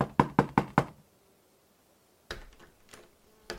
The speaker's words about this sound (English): He then shrugged and knocked.